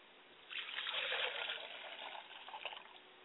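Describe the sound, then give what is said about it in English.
Water is poured out as a libation to the east in a steady, splashing stream that begins after a brief pause, runs for close to three seconds, and thins toward a dribble at the end. No one speaks. “I pour libation to the east and we say Ashe.”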